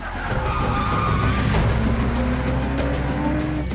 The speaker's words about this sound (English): The young assassin walks through an underground car park and gets into a dark-coloured car with a blue light stuck to its roof. He gets in and drives off.